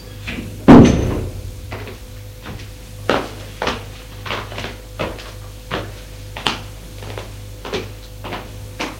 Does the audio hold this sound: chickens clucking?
no